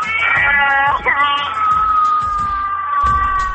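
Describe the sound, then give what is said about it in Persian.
A person on a funny phone call imitates a wolf, answering the 'Amu Zanjirbaf' rhyme, with one long, loud howl that rises, wavers, then holds a steady pitch for several seconds, with faint background noise underneath. “با صدای چی؟ با صدای گرگه.”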